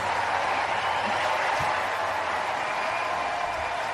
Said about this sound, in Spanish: Es sonido de nuestros compañeros de Movistar, es la ovación que se ha llevado Carla Suárez tras ser eliminada en Wimbledon, ha caído ante la número uno del mundo.